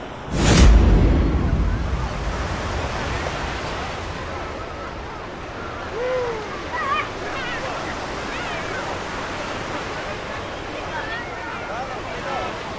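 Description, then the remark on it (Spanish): A loud sea wave crashes near the start, then the surf keeps rushing and hissing in a steady roar, with faint voice-like sounds drifting underneath. “Llévame a mí también contigo, maldita mar.”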